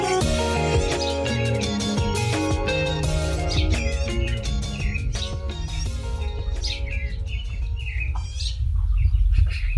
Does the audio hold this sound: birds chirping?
yes